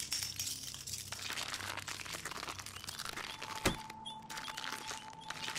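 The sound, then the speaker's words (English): Broken glass crunches and crackles in a dense, steady stream of gritty clicks, broken by one sharp crack partway through, followed by a faint steady high tone. No one speaks. “A lot of broken glass.”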